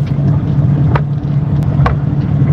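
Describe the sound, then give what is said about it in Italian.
A voice imitates a car engine with a steady, low, buzzing drone that runs the whole time, loud, broken only by a couple of brief clicks. “Questo sta per stirare, sì, proprio.”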